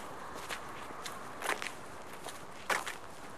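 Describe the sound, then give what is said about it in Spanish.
Footsteps of a boy crunch along at an unhurried walking pace in a park as he walks ahead of his father, a few soft steps building to sharper ones, set against a steady outdoor hiss with no voices. “El chaval camina delante de su padre.”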